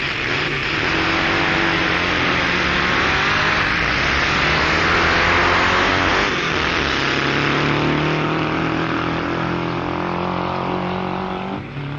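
Drag racing cars roar loudly as they accelerate down a dragway, their engines droning steadily for the whole stretch, with no voices. One is one driver's 14-foot-long dragway machine with a blown Volkswagen engine, matched against another driver's car.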